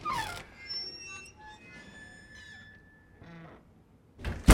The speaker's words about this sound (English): Eduardo gulps and shuts the door.